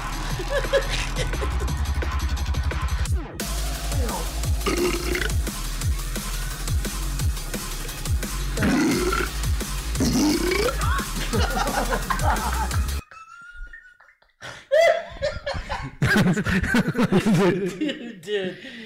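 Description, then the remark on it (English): Loud, repeated burps over a steady, thumping musical backing, followed by a brief drop-off and then a few more belches mixed with chuckling voices. “Dude, imagine people dancing to that. With all the fucking burps going on.”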